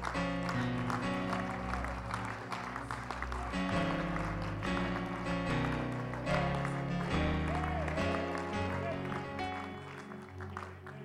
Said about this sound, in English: Praise the Lord. Would you just give the Lord a great hand clap of praise?